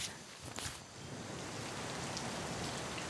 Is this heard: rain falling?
yes